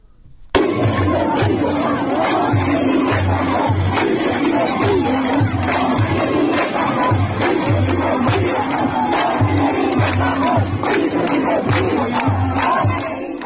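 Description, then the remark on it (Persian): A large crowd at the funeral of Kian Pirfalak, a 10-year-old child shot inside his family's car by government agents, in Izeh, chants loudly in unison, voices rising and falling in a steady repeated rhythm that carries on without pause for the whole stretch. “در ایزه مراسم خاکسپاری کیان پیرفلک، کودک 10 ساله‌ای که در داخل خودروی خانوادهش هدف تیراندازی ماموران حکومتی قرار گرفت، با حضور گسترده مردم برگزار شد.”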